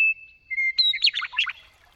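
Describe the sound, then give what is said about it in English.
A meadowlark sings: a long, pure whistled note and a shorter lower one, then a bright, rapid tumble of warbling, descending phrases, clear and fairly loud with no talking. “And I can whistle back to the Meadowlark, and we can go into concert together.”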